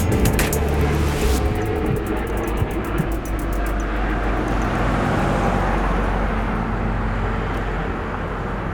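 A helicopter drones steadily overhead at Białowieża, Poland, its loud low rumble constant throughout, with a rhythmic rotor chop pulsing clearly early on before blending back into the engine roar.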